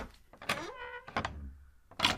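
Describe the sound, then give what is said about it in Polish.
A very old wooden door, believed to come from a dismantled treasury outbuilding, creaks open with a drawn-out, tonal groan that bends in pitch, followed by a second shorter creak and a soft knock of wood at the end. “I to są bardzo stare drzwi. Przypuszczamy, że to są drzwi tej rozebranej oficyny skarbowej Branickich. One przetrwały. Trzeszczą.”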